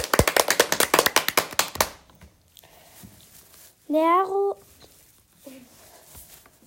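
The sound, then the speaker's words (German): A short, loud burst of brisk applause for Alfonso and Brünnhild, a black-and-white chequered Holstein dairy cow who played a cowbell solo, with rapid, closely spaced claps lasting about two seconds, then stops, leaving quiet room tone and a brief voiced sound. “Applaus für Alfonso und Brünnhild.”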